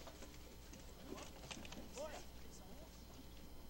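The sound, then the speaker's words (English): A horse's hooves clip-clop in a loose, uneven rhythm of hollow knocks, in a film scene set in the middle of a battle between the British and the Germans, with indistinct voices murmuring underneath and a brief higher-pitched tonal sound partway through. “It's a horse.”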